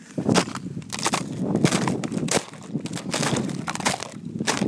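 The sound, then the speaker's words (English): Ice cracking and crunching underfoot near the summit of Bleaklow, at around 600 metres: a steady run of irregular, sharp snaps and brittle crunches that stays fairly loud for the whole stretch, with no voices. “But I thought I would unpause to get some sounds of this ice cracking.”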